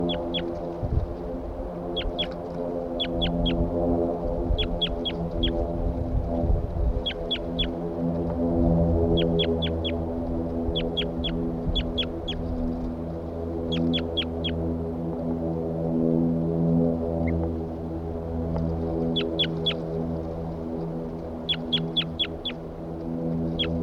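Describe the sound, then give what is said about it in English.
A bird calls again and again in quick bursts of two to four sharp, high notes, repeating every second or two over a steady low droning hum. “Start recording the bird again. Still calling loud.”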